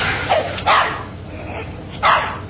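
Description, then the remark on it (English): A dog barks a few times in short, sharp bursts, two close together and then one more after a pause, over a low background hum. “We drop the dog off in front of somebody's house in the country.”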